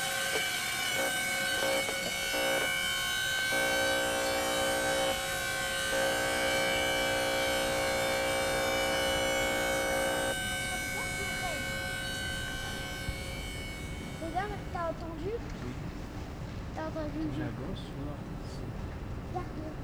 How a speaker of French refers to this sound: le bâtiment a visiblement un gros défaut de bardage métallique. Du coup, à chaque fois qu'il y a du vent, cela provoque un sifflement insupportable